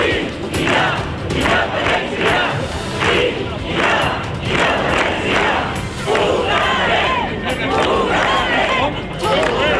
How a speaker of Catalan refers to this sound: Aquests estan els crits que es van escoltar ahir dimecres al vespre a la plaça de la Vila. Més de 600 lloretencs han fet sentir la seva veu en una concentració de suport a les institucions de Catalunya i en defensa de la democràcia.